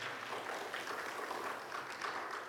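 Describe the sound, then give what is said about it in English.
An audience claps their hands together, a dense, steady patter of many overlapping claps that holds throughout without any talking over it. “Well, you can clap your hands right there.”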